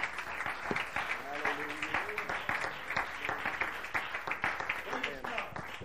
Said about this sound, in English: If you'll help me preach, you can clap and sit down. Amen.